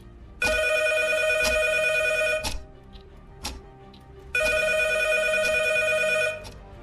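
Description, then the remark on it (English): A phone rings at a desk, twice, in long, loud, buzzing bursts of about two seconds each, separated by a pause with faint background noise. No one speaks. “As the clock ticked towards Thursday's deadlines, my phone rang.”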